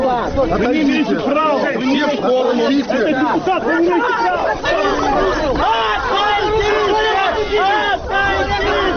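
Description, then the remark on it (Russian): An indignant crowd blocks the path of a police car into which a deputy and activists have been put, many angry voices shouting continuously and overlapping into a loud, unbroken clamor with no single speaker standing out. “Движение полицейскому автомобилю преграждает возмущенная толпа.”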